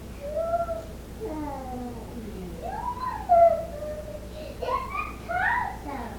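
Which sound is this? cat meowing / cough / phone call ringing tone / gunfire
cat meowing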